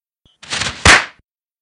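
A brief rushing scrape builds, then ends in a single loud wooden thunk as a skater on a wide lake strikes a pole after hitting a big stone, ringing off quickly.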